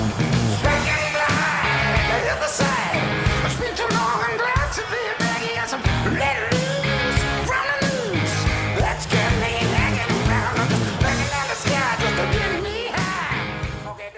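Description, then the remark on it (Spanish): A loud live rock band from Australia plays in the huge River Plate stadium, guitars and drums driving steadily while a massive crowd roars along underneath for the whole stretch. “Ruge la gente. Ruge la monada.”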